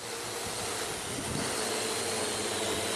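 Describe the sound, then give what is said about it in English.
A steady, high-pitched motor whine and buzz of a small aerial drone hovering, holding a constant loudness throughout with a faint airy hiss and no voices. A New Zealand sheep farm uses the drone to monitor pasture growth and stocking rates, and a 14-year-old flies it with an iPad app. “New Zealand sheep farmer Neil Gardine uses an aerial drone to monitor pasture growth and ideal stocking rates”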